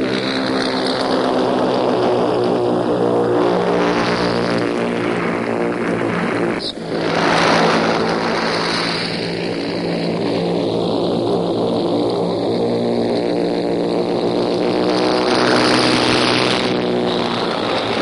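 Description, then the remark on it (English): A loud, continuous drone of propeller engines from paratroop planes circling the aerodrome before they set their course, steady and layered with deep harmonic throbbing, with one brief dip and swell midway. “Is full of the noise of these paratroop planes as they circle the aerodrome before they take their course.”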